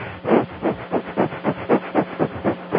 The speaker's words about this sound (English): What you might want to do is go inside and just start breathing rapidly, 2 minutes of rapid panting through the nose like this.